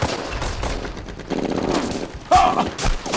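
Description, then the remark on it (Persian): Sustained covering gunfire crackles in rapid overlapping bursts, loud, with a dense barrage of shots continuing throughout and a brief whistling tone rising partway through. “پوشش آتش، پوشش آتش. به شلیک ادامه بدید.”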